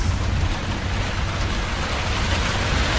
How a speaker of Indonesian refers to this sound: Kebetulan malam hari itu hujan sangat lebat dari sore. Jam 8 malam, hujan pun mulai mereda, tapi masih tetap gerimis.